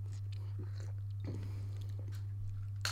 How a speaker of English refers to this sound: Okay, I've got a cup of coffee now. People, the energy of the show is about to lift tenfold. Let's have a sip.